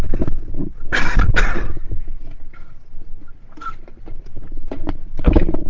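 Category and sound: human body sound, cough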